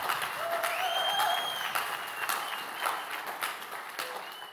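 A church audience breaks into steady applause, giving the Lord a hand clap for a pastor and his family, many hands clapping in a dense, continuous patter that holds at an even loudness throughout, with faint whistle-like tones and a few cheers mixed in.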